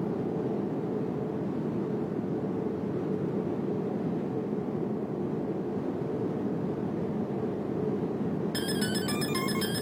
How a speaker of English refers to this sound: Shuffle just firing off with a banger.